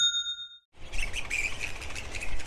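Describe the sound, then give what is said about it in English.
A brief ringing chime, then a dense, continuous chorus of grey-headed flying foxes at 4 a.m. in Harrington Park, a suburb where an estimated more than 50,000 have settled: shrill, squeaky chirps and squabbling screeches overlapping over a low rumble, with no voices. “À 4h du matin, c'est un véritable concert. Des roussettes à tête grise, les Grey-Headed Flying Foxes, en anglais, on estime que plus de 50 000 ont pris leur quartier il y a quelques mois à Harrington Park, une banlieue”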